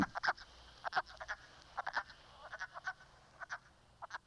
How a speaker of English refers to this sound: The way you remember that one, you got a wood frog. You also have a wood duck. The wood frog sounds kind of like it's quacking.